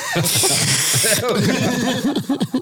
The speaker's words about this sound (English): Why are you sniffing so aggressively?